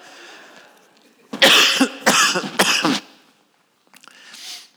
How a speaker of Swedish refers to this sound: Nu får vi stänga av ljudet lite så jag får hosta.